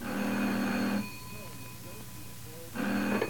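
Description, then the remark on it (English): A telephone rings twice, each burst a loud, buzzing double-tone trill lasting about a second, separated by a quiet pause; no one speaks. “And then out of the blue it happened one day, a phone call.”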